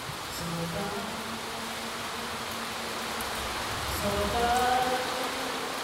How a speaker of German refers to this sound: Da muss schon mal eine Aufführung unterbrochen werden, wenn es plötzlich unübertönbar auf das Blechdach herunterprasselt.